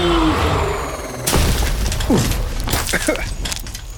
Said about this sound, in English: That was a hard landing for a bed.